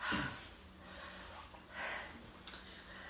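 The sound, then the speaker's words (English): Heavy breathing echoes inside a diving helmet underwater in a lake, a few slow muffled inhales and exhales with a faint low hum and one sharp click near the end. “Breathing inside helmet, we hear snippets of a distorted, distant Emily.”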